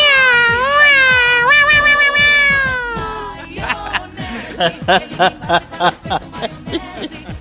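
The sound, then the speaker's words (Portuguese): A person imitates a kitten at the Stock Lá store with one long, wavering, high-pitched meow, then a quick run of shorter, choppy meow-like bursts, loud. “Consegue imitar aquele gatinho aí, que tá todo mundo esperando aí,”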